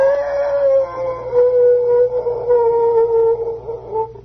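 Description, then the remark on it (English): A single long, mournful timber wolf howl holds a steady pitch with a gentle downward drift for about four seconds, loud, with no other voices. “By God, it's a timber wolf.”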